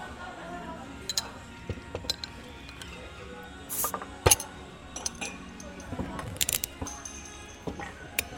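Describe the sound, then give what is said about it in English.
Scattered clinks and clatters of glasses and soju and beer bottles being opened, with a brief hissing fizz of a cap coming off midway and a sharp knock just after, amid quiet handling noise. “Well, shall we crack some open?”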